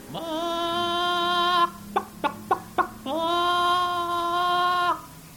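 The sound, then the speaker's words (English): A person imitates hens scratching around and clucking in the heat of a summer afternoon: a long, drawn-out nasal call, four quick clipped clucks, then another sustained call, all fairly loud. “A lot of hens scratching around out there, and by the way they talk, you could really tell that it's hot.”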